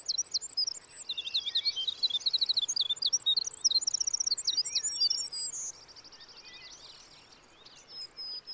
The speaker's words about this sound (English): this is just a tiny little bird, you know, just a few inches long. And when you're in a valley or a ravine and this bird starts to sing, it fills the whole valley with its song. And it's just musical and beautiful, and it just takes your breath away.